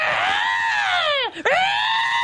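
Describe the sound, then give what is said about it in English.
A person loudly imitates a sparrow call, in reference to the film Red Sparrow, with a long, strained, scream-like cry that slides downward, breaks off briefly, then swoops back up and holds. “By the way, I don't think sparrows actually sound like that.”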